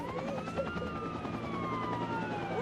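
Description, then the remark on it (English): An emergency vehicle siren from fire trucks on the street wails with a rising and falling tone over steady street rumble and a low hum, sustained throughout the short stretch. “On the street, fire trucks and a CDC command post.”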